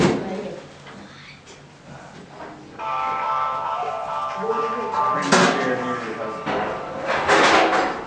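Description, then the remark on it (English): A chair brought from across the hall is moved and set down during a Bible class: a long scraping drag across the floor, then a couple of sharp knocks and bumps as it lands, with faint background murmuring. “So if you look at things here, we can get another chair from across the hall,”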